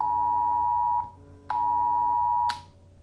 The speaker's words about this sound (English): Phones sounded with a siren at 3 p.m.